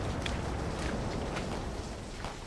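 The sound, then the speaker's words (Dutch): Steady, dense shuffling of many footsteps as people walk together in groups into the dark, heading south through mud, with soft crunching thuds recurring every half second or so over a constant low rumble. “In groepen lopen we het donker in.”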